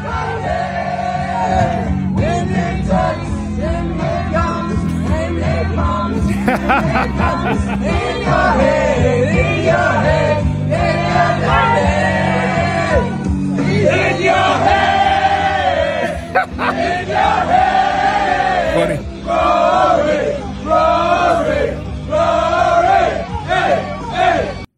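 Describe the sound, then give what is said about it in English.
The European team chants a song together on their bus leaving Bethpage, in loud, rhythmic group voices, sustained and energetic for the whole stretch, with rumbling low-end noise of the moving bus underneath. “Here they are, audio of them on their bus leaving Bethpage.”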